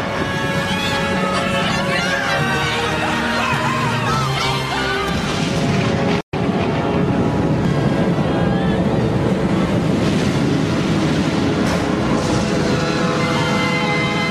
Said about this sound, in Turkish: Çok şiddetli esen kasırgalar, dev dalgalar meydana getiriyordu.